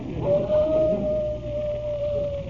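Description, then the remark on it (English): A single long, steady wolf-like howl holds one pitch for over two seconds, clear over a rumbling, noisy background, with no talking. “Sounds like a wolf.”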